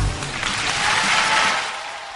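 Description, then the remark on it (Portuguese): An audience bursts into sustained applause after an orchestra's song performance, a dense, steady wash of many hands clapping that swells slightly in the middle and holds loud throughout, with no voices standing out. “Gran aplauso”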